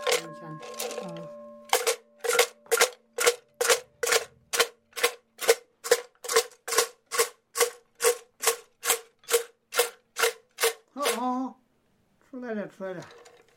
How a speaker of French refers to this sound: il va se saisir d'un pot en bois dans lequel il y a une centaine de petites tiges en bambou, le secouer, et là, normalement, une tige va se dégager de toute seule, voire sauter sur le sol, s'extraire du pot à force de le secouer.